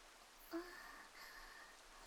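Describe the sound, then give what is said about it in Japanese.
Soft, steady patter of light rain that is easing off, a faint continuous hiss with one brief brighter tick near the start, no voices present. “あ、ほら雨だって少し弱くなってる。”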